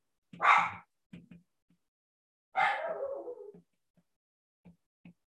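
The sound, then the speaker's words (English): A dog lets out a sharp, loud bark, then a longer drawn-out bark that trails off, with a few soft, brief yips scattered between. No talking. “My dogs are really making it difficult for me to concentrate.”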